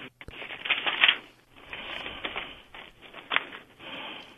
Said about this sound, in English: I thought I heard paper rustling in the background. Well, yeah, moving stuff around.